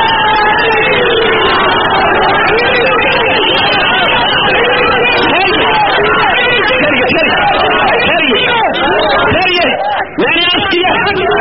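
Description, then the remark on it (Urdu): A large crowd at a gathering chants slogans loudly, many voices merging into a dense, continuous roar that stays steady for the whole stretch, with occasional shouts rising above it. “میں نے کہ جتنے آپ نعرے کم لگائیں گے اتنی میں بات زیادہ کر سکوں گا.”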